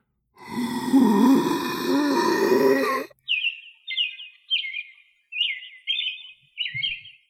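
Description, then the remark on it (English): A person mimics birdsong, showing off bird calls practised for a birdsong contest: a long, strained, breathy vocal sound, then six short, bright whistled chirps in a quick, even series, clear, with no talking. “They have a birdsong contest where competitors show off their most accurate bird calls.”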